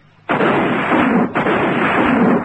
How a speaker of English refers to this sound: Now, who the devil's that? Couldn't be Biggs, could it? Well, what would Biggs be shooting at?